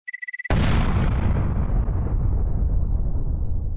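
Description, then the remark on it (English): A few quick high beeps lead into a sudden, loud explosion at the end of a country song, which roars across the full range and then rumbles and fades slowly over several seconds, with no voices present. “Always loved that explosion at the end.”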